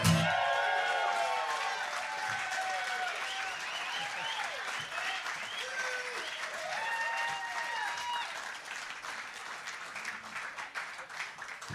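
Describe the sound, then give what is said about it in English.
An audience claps steadily for about twelve seconds after a song is performed, a dense wash of applause with scattered whoops and cheering voices mixed in, easing off slightly toward the end. “Shame on all of you clapping on such rubbish.”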